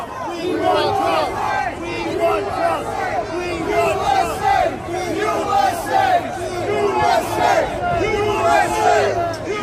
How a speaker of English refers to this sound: Listen to that crowd just going crazy in New York.